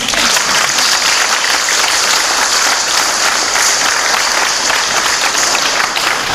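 Sustained audience applause at a Sofia University law faculty event, honoring the university's rectors and the faculty's deans, a dense, steady wash of many hands clapping at a loud, even level throughout, with no speech breaking through.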